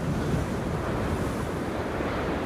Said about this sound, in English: Darby gets out of the car and her hair blows in the strong winds of the storm.